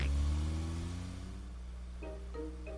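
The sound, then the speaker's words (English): An old car, just repaired, rumbles loudly and pulls away, its low droning pitch sliding downward as it recedes, followed by a few short tonal bursts near the end. No one speaks. “Ah, it's good to get our old car back again.”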